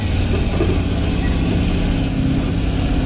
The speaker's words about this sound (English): V8. V8 engine.